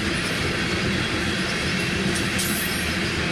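A train rolls steadily past on a track beside an industrial park in Lincoln, a dense continuous rumble with metallic rattling and faint wheel squeal, loud throughout with no voices.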